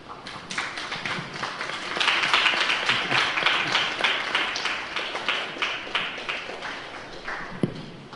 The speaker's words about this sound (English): Clapping's become a new thing in Mayapur. I'll clap for you.